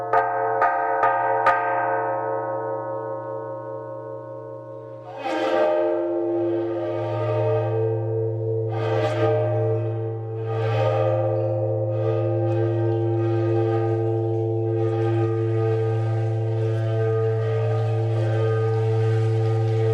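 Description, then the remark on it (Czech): A large bell from Vodňany rings with a deep, sustained hum, played from a CD recording. It is struck several times at a slow, irregular pace, each clang blooming into a long, rich resonance that hangs and overlaps. No one speaks. “Tak my máme teď jedinečnou šanci také si vodnářský zvon poslechnout, takže dáme si takovou malou ukázku z CDčka, které jste vydal.”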